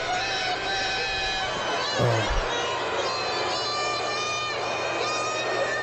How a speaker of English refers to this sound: That's the most noise from a San Diego crowd ever.